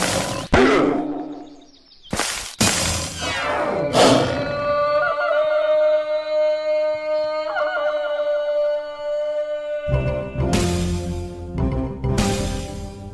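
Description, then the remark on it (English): Video game tiger roars boom out several times during a tiger-fight level in which the player has to kill tigers, interspersed with heavy thuds and bursts of sound, over a sustained tonal game background; loud, with no talking. “This is basically where you have to kill tigers.”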